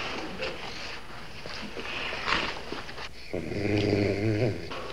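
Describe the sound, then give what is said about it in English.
After a stretch of soft rustling, a low, rumbling growl swells up and holds steady for over a second, a dog growling right around the corner in a school at night. “You think it's a dog? I sure hope it's a dog.”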